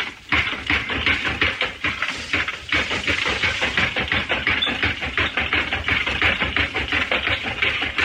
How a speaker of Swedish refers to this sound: Med vänster handen för han en spak som gör att maskinen gör ett dunk upp och ner och ramen flyttar sig.